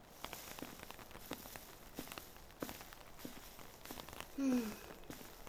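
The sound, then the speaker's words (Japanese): Steady rain patters outside, a constant hiss broken by irregular sharper drips and taps, with a brief low squeak near the end; no one speaks. “雨止まないな。”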